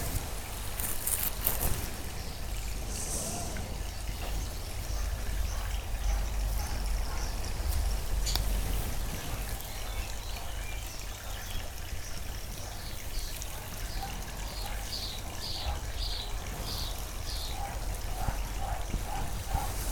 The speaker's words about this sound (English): And as we do so, the boat silently glides across the lake.